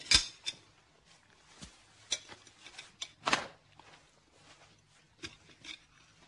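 Sharp clinks and taps of cutlery against plates at a dinner table recur irregularly, a few louder knocks among softer scrapes, with a quiet background and no talking.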